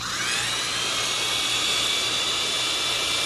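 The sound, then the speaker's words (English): A power drill fitted with a drain-cleaning electric eel spins steadily, its motor giving a continuous high-pitched whine with a broad rushing hiss that holds at constant loudness throughout, with no voices. “You have to be very careful with power tools, especially. An eel on the end of a drill?”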